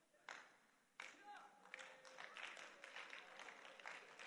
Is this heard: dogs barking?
no